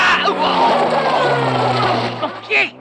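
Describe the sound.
A car engine runs loud, droning steadily as the vehicle pulls away and runs over someone's foot, with voices mixed in underneath and a short louder outburst near the end.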